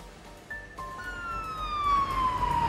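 An emergency vehicle siren wails in a steady rising-and-falling tone, growing louder as emergency vehicles arrive at the scene of a shooting in New York, over low traffic rumble, with no one speaking.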